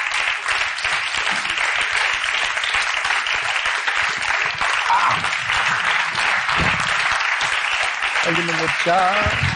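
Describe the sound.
Loud, sustained audience applause, a dense crackle of many hands clapping at once, steady for nearly ten seconds; a voice briefly rises above the clapping near the end.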